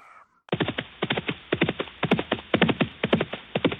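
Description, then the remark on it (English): Horse hooves clip-clop in a steady, quick rhythm, loud, with sharp repeated strikes continuing after a brief quiet start; no one is talking. “Horse riding isn't new to Southern Africans.”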